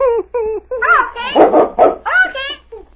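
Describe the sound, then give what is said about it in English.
A big dog barks and yelps in a rapid, uneven series of about nine loud bursts, some higher and whiny, with a low constant hum underneath. “Him talk to dogs. See? The dog obeys him.”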